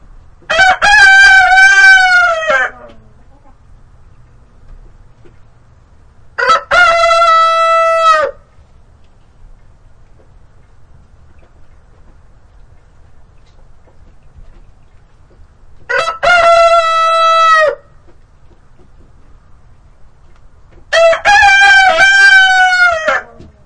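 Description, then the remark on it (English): Loud crows from two roosters ring out in four long bursts separated by quiet pauses, with both birds crowing over each other at once in some bursts. No one speaks. “Can you both crow simultaneously?”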